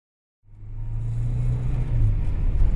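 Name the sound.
car engine running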